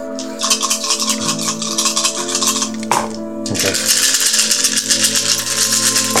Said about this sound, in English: Let's make this roll. Yeah. They're soothing. See, I need a lot of dice for this one.